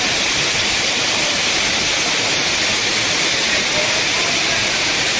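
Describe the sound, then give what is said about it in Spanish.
A heavy rain and hail storm in Muro pours down in a dense, unbroken roar, loud, with a steady hissing wash that holds throughout. “El sonido de la fuerte tormenta de agua y granizo que ayer volvió a provocar problemas en Muro.”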